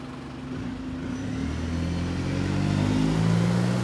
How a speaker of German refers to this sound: Als der Bus durch das geöffnete Gitter gefahren war,